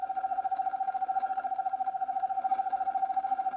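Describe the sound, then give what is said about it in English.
An eastern screech owl gives a long, soft, rapid trill, a steady stream of quick pulses holding one whistled pitch for several seconds without dropping, with no other sounds around it. “Despite its small size, this owl produces a range of sounds, from soft trills to eerie, descending whinnies that sound like ghostly whistling in the woods.”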